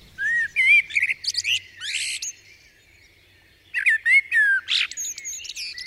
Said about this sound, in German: Ich glaube, das war die Amsel. Sie sitzt gerne auf der Mauer oder hüpft über das Gras.